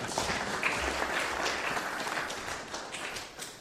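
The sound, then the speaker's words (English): An audience at an Advent church service applauds steadily as a candle is lit, many hands clapping at once in a dense, continuous patter that holds an even level for several seconds without any voices. “Big round of applause.”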